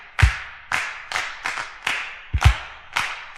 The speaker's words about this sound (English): Clap your hands, everybody! Let everybody just clap your hands!